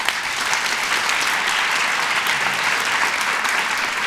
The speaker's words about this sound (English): Okay, also for the audience, women, or for those who are listening, women in the audience, please clap.